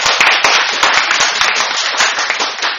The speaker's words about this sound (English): As much as I appreciate applause, could I just remind people in the public gallery, please, to not applaud or intervene in the meeting in any other ways, please.